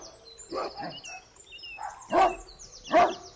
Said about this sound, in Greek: Ξαφνικά όμως η αλεπού κοντοστάθηκε και αφουγκράστηκε. Κάπου γάβγιζε ένα σκύλος, ο σκύλος του κυνηγού. Γάβγιζε και πλησίαζε.